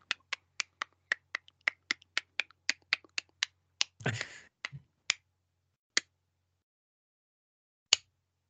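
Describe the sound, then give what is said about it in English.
A fast, even run of sharp dry clicks, then a short burst of rough noise, followed by a few isolated clicks spaced out with long silences between them. “The final sounds to be recorded are the agents choking, followed by silence and an unearthly clicking noise.”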